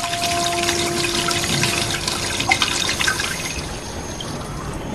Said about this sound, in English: She washes her hands in the clear water.